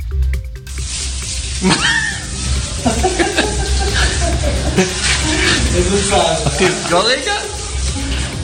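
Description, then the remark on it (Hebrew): Water gushes steadily from an opened faucet at a military base, where opening the left tap makes the right tap run, a constant hissing rush that stays loud throughout, with people's voices and a laugh rising over it. “בבסיס צבאי נמצא ברז, שכאשר פותחים אותו, שימו לב מה קורה.”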